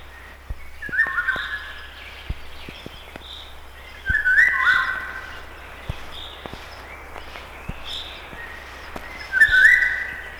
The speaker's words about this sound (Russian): Песня коротка и грустна по складу. В июньском предзакатном лесу после короткого летнего дождя во влажном воздухе хорошо слышна песня Иволги.